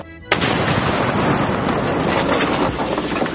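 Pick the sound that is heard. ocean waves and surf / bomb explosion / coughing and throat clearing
bomb explosion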